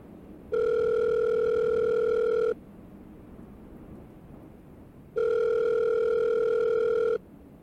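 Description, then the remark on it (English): A telephone line tone sounds twice as a phone call is made: two steady, mid-pitched electronic buzzes, each lasting about two seconds, separated by a quiet pause over faint background hiss, with no one speaking. “I need to make a phone call about this.”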